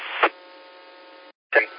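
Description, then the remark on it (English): A steady, buzzy hum from a radio power supply, audible outside the unit, with several sustained tones running through a narrow, radio-like channel, broken by two brief louder bursts and a short silent gap. “And something interesting about this power supply, the hum outside of the power supply is audible as well. You can hear it hum.”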